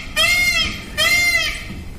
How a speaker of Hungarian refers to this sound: Páva? Így van.